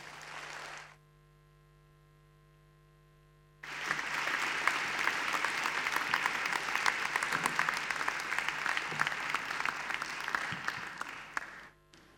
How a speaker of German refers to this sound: Einen ganz, ganz warmen Applaus, bitteschön